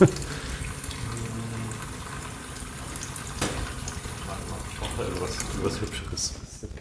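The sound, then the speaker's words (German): Tap water runs steadily into a glass in a chemistry lab for several seconds, a continuous splashing hiss, with faint voices murmuring underneath before the flow tapers off at the end. “Hast du vielleicht einen Tropfen Wasser? Ich glaube, ich brauche einen Tropfen Wasser da drin”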